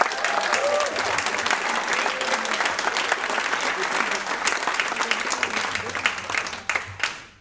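Sustained audience applause for Herman Brusselmans, a dense, steady wash of many hands clapping for about seven seconds before thinning out and fading at the end.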